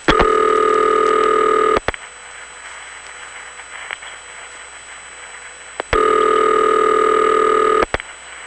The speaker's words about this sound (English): And right now it is revertive pulsing with the panel. XY crosstalk, never mind that. And now the auxiliary sender drops out with the ta-ta sound.